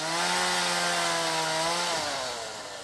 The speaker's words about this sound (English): A group of Afghanistan and Iraq vets are chainsawing a huge spruce tree hung up on the wires in front of Sammy McFarland's house off Rockaway Beach Boulevard.